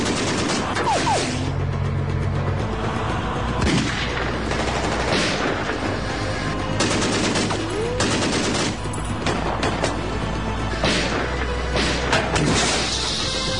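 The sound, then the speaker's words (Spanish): Loud bursts of automatic weapon fire crackle in rapid, repeated volleys as John Chase, Baby Face's partner, opens fire on pursuing agents. The shootout is sustained throughout over a steady low rumble, with no voices. “El socio de Cara de Niño, John Chase, toma su arma automática y comienza el tiroteo.”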